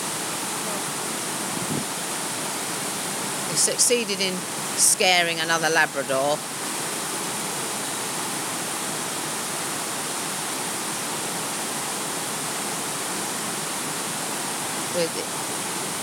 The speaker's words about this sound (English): we're by the waterfall. This must be very powerful, isn't it?